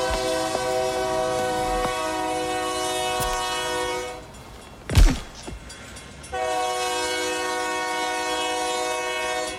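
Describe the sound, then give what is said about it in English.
A loud train horn blares in a long sustained blast, breaks off as the train rushes past with a brief whoosh, then sounds again just as long and steady. “All it took was a thought, cause the man got off of the train, but the train never stopped.”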